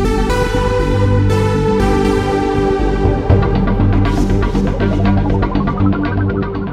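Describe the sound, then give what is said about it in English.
A short, bright radio weather theme jingle with sustained synth chords, a steady beat and shimmering percussion hits, played loud with no voices. “Weather theme.”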